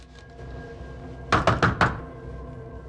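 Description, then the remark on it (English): Four quick, firm knocks on an apartment door off a corridor in Washington, D.C., in a steady rhythm, clear, over a quiet, low background hum with no voices. “He checks something on a small piece of paper, then knocks on an apartment door.”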